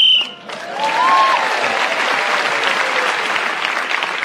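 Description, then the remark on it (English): A short, sharp whistle blast at the start, blown to end a game round, quickly followed by a crowd breaking into loud, sustained applause that carries on to the end. “Julian Clary was again speaking as the whistle went and gained that extra point”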